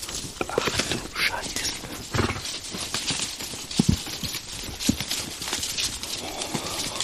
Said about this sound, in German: Hört ihr die Äste? Ich mache das Mikrofon mal ein bisschen empfindlicher. Oh, nicht weit von mir. Oh, direkt links. Oh, das ist der Elefant.